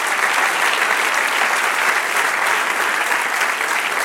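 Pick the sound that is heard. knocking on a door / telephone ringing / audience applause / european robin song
audience applause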